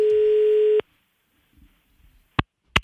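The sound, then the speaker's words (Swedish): A steady, loud telephone ringing tone of a prank call made by the radio station Mix Megapol Göteborg sounds once, about a second long, then cuts off into near silence with faint rustling and two sharp clicks like a phone being picked up. “Och efter den här helgen nu så ringer vi från ungdomsmottagningen.”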